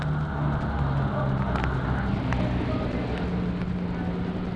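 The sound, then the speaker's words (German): Heavy vehicle engines rumble steadily as a crew drives the vehicles out of a garage, a constant low drone with faint indistinct voices in the background. “Und mitten unter den Fahrzeugen, die jetzt die Garage verlassen haben, mitten unter der Mannschaft, die hier Wagen für Waren herausgefahren hat”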